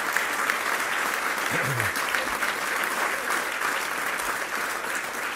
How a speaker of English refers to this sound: So if we give a great round of applause to the President and the First Lady.